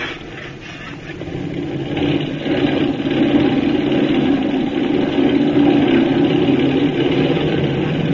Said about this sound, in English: Better close your hatch. I'm revving her up for takeoff.